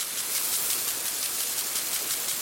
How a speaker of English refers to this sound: The green sound of water sprinklers, a sign of America's water abundance.